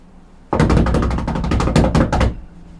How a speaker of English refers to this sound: Drum roll, please.